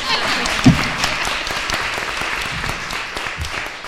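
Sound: group clapping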